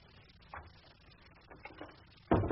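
A door swings shut with a sudden heavy thud near the end, preceded by a few faint shuffling knocks over quiet background hiss.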